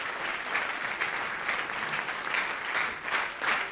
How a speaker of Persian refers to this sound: مرسی، خیلی تشویق کنین جفتشون. مرسی، مرسی.